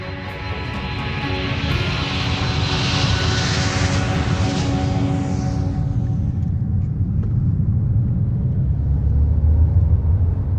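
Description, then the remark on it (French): A steady, loud airplane engine drones throughout, a broad rumble with a high whine that fades after a few seconds, leaving a deep continuous roar as the aircraft cruises. “Prenez-moi un billet dans le premier avion.”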